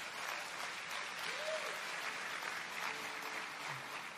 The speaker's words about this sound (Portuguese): Aplauda mesmo, Senhor, queridos.